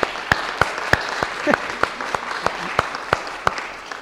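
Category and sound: crowd, audience applauding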